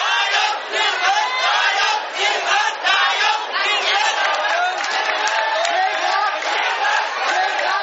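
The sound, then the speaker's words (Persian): A large crowd of Red Shirt supporters in Thailand roars and shouts victory cries in unison on a Sunday, a dense, sustained wall of excited voices with rising cheers and whoops that stays loud throughout, with no pause. “سرخپوشان تایلند که سال گذشته پس از ضرب و شتم نیروهای دولتی و تخریب چادرهایشان در مرکز تجاری بانکوک مجبور به عقب نشینی شده بودند، روز یکشنبه فریاد پیروزی سر دادند.”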